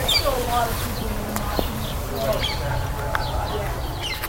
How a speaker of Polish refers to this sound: Stąd te ptaki zawsze tutaj świergocą, niezależnie od pory roku. Czasem widzimy tu zielone papuszki, które mają tutaj swoją siedzibę.